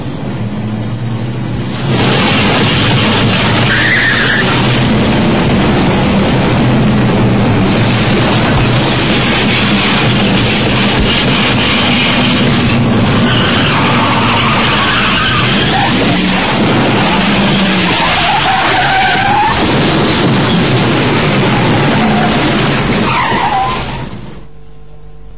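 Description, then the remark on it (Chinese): Loud, nearly continuous tire skidding and roaring car engines for over twenty seconds, broken by a few sharp knocks as a sedan with a steel bar frame on its front repeatedly rams another car at night on the way back from the airport, with no voices. “当晚马斯燕开车送罗拉夫妇去飞机场，归途中一辆车头上装有钢条框架的轿车突然向他的汽车连连撞击，又是一次不知缘由的袭击。”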